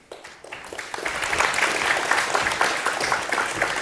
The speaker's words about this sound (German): Zweimal Applaus ohne Anfang, nicht schlecht. Ja, dann braucht man nachher keinen mehr.